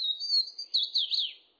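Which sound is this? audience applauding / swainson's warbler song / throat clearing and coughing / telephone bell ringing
swainson's warbler song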